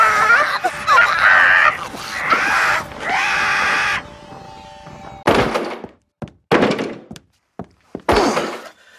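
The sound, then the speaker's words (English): Strained vocal cries and groans give way to a series of five or six heavy, irregular, loud thuds as someone repeatedly rams a jammed door. “The door's jammed good and proper.”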